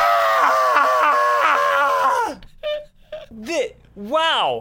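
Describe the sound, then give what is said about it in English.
A person screams on cue, loudly and continuously for about two seconds, then lets out several shorter, wavering yelps and a final rising-and-falling wail, all unaccompanied. “…, you can scream now.”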